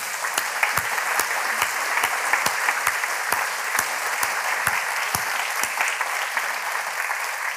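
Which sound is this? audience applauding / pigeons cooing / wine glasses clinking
audience applauding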